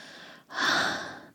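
Heavy, breathy panting: a rasping exhale, a short catch, then a longer, louder breath that fades before another begins. No talking.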